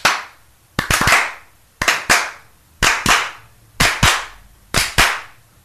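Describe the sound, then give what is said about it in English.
Hand claps recorded as a repeating beat for a song being written, in a steady pattern, pairs of sharp claps about every second with a short reverberant tail, loud and alone with no voices. “So we got some hand claps in there.”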